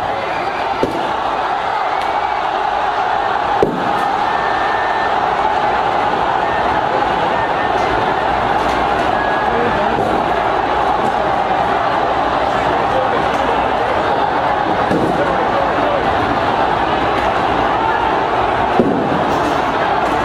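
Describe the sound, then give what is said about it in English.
A large protest crowd in Hong Kong roars and shouts continuously at 6 p.m., broken by a few sharp, loud bangs of tear gas canisters fired by riot police into the crowd at irregular intervals. “And at 6 p.m, riot police fired tear gas into the crowd.”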